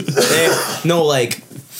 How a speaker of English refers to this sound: You cough away from the mic, you still like hear it.